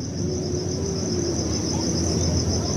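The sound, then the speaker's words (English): A steady, high-pitched insect chorus trills without pause over a dense low rumble of night ambience in a forest at night, with no voices or breaks in the continuous chirping. “But the owls and the insects were the wind and the leaves, and there was just lots of singing, different kinds.”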